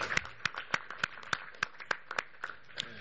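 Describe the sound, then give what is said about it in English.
Scattered applause of sharp, fairly quiet hand claps at a steady rhythm, roughly three per second, with a few overlapping claps from other hands, given at a meeting for the registrar negotiating team. No one speaks over it. “I think they've done an excellent job, so just perhaps a round of applause for them, because they've really been working very hard to defend our interests.”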